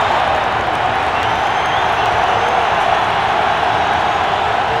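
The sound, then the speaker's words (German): A steady, loud wash of crowd noise with dense clapping and a few cheers fills the whole stretch as spectators at an American football event rise and applaud together without letup. “Kaum waren die Worte verklungen, erhoben sich die Zuschauer und spendeten Beifall.”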